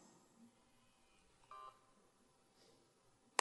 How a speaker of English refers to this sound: And I have a cell phone to turn off.